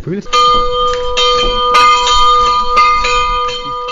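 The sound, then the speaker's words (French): A large château bell at the Château de Villebon in France, rung by pulling its chain, rings loudly, struck over and over at an uneven pace so each resonant tone overlaps the next, with faint murmuring voices in the background. “Et on sonnait la cloche et il sortait au bras de la duchesse de Sully”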